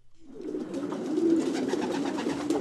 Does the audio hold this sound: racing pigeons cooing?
yes